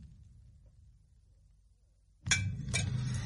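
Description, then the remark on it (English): Wine is poured into glasses for the first course: a low, soft murmur of liquid pouring runs for a couple of seconds, then two bright glass clinks ring out in quick succession, followed by a steady low rush. “Watson, be so good as to pour the wine for the first course.”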